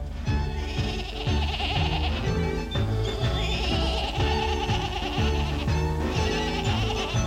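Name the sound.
goat bleating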